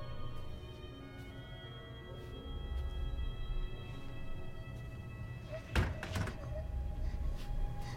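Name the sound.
door opening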